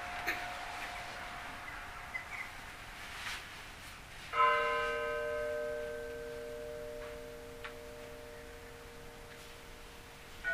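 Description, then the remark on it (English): Church bells in Rostov ring as the holy shroud is brought out or during a procession, a lingering tone giving way to a single clear strike whose rich overtones hum and slowly fade. No one speaks. “This is what you would hear when the holy shroud is being brought out, or during the procession, finally.”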